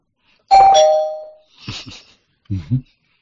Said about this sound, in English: It's a slight spoiler. I'll ring the bell.